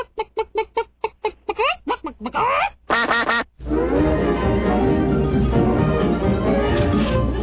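A duck-quacking sound effect: a rapid run of about ten loud duck quacks gives way to longer drawn-out calls, then a dense, continuous din of many birds squawking together until the end.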